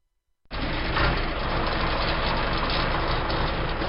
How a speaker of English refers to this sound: At the heart of Kubota's most powerful tractor ever is a 6.1-litre engine